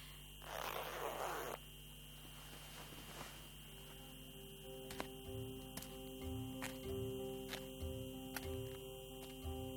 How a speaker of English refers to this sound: Hamadan is very cold in this time of the year. I better zip up my hood or I will freeze.